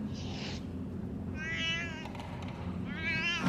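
Bristling cats yowl and wail in drawn-out, wavering cries, with three loud outbursts spread over a few seconds against a constant low rumble. No one speaks.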